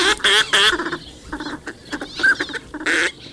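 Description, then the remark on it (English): A series of nasal, quacking Northern pintail duck calls, several bursts in quick succession with short gaps, fairly loud and clear with faint outdoor background and no talking. “Northern pintail, slender and elegant ducks, seek shallow ponds and wetlands throughout the northern hemisphere.”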